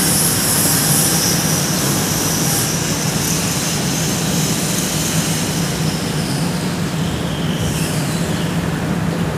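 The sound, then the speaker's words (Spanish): A welding or ceramic-cutting machine on the right side drones steadily with a high, thin whine running throughout, and a car passes by toward the end, in the street ambience of the city of Mar del Plata at about 8:30 in the morning. No one speaks. “Bien, esa máquina de soldar que escuchaban, o de cortar cerámico, una cosa así, está del lado derecho, ahí pasa un auto, así que bueno, este es el ambiente.”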